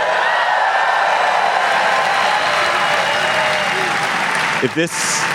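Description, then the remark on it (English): Loud, sustained applause from a large live audience at the Norse Theater in San Francisco fills the whole stretch as a dense, steady wash of clapping, with a few cheers and a voice briefly rising near the end. “As you can hear, we are live. We're live at the Norse Theater in San Francisco in front of the largest crowd in GABFEST history.”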